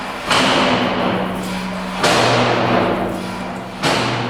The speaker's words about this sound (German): Zuerst zieht der Philipp Spindler die Schieberklappe auf und zu, damit die Löwen hören, dass sie reinkommen sollen.